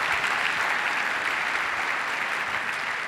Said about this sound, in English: Okay, give her a round of applause on her dream, please.